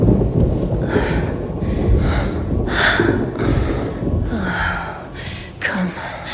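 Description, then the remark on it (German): A stormy night with constant low rumbling thunder and a dense wash of rain, while someone breathes heavily in repeated soft gasps. “Die junge Frau auf dem breiten Bett kümmerte das Unwetter nicht.”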